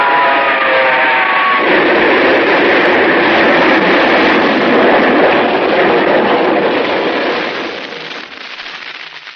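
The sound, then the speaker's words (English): A train locomotive thunders past on the tracks, a short tonal whistle at the start giving way to a loud, steady clattering roar that eases off slightly at the end. No voices. “The light on the engine picked him up a quarter of a mile away. And I whistled.”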